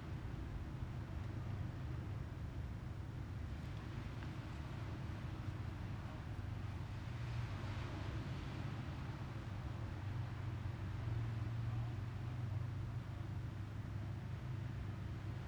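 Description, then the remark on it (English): A steady, low motor drone from a boat out on the ocean hums without pause, a constant rumble with a faint wash of wind and surf over it, no voices present. “There's a boat in the ocean right now.”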